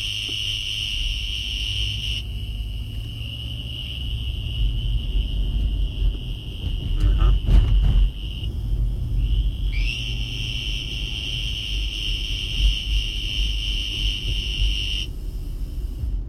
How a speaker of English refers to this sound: Similar in breeding habits as well as in mating call is a western green toad, Bufo debilis insidior.